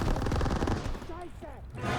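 Video game sniper rifle gunshots crack out in a loud, dense series of rapid reports, fading briefly midway before the firing noise returns, as the player fires a sniper rifle from a chosen position.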